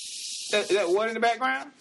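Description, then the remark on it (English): Running water hisses steadily and evenly throughout, a bright constant spray sound; partway in, a person starts talking over it while the water keeps flowing underneath. “That water in the background?”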